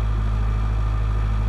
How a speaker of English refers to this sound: The buzz of electrical generators. The hustle and bustle of an outdoor pre-gig setup. When we're beside our production office and the generator's going, it just brings you back to those lovely feelings of being stuck in a green field during the